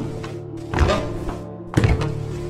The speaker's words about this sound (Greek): Ξαφνικά, δυνατά βήματα ακούστηκαν.